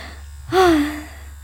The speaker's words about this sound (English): start gasping uncontrollably.